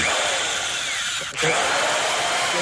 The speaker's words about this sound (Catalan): Per això acabo de fer dos forats a un iPad.